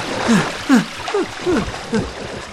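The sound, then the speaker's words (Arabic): Water splashes and sloshes in a river as a bear tries and fails to get out while a crocodile closes in and attacks, five rhythmic bursts about half a second apart with gurgling dips, over a steady rushing background, moderately loud, with no talking. “وهكذا يا أصدقاء، لما حاول الدب الخروج من النهر فشل في ذلك.”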